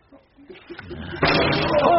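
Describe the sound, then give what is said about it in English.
A single loud gunshot cracks out at a wedding ceremony by the altar, partway through after a quiet, murmuring lead-in, followed by a sustained wash of noise that lingers to the end. “A single gunshot.”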